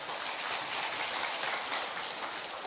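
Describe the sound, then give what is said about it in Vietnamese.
A dense, steady crackle of clapping from a church gathering thanking God as a guest is invited up, sustained at an even level for the whole stretch with no voices over it. “Một tràng pháo tay chúng ta tạ ơn Chúa.”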